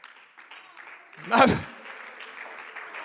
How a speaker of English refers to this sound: Don't clap if you don't mean it.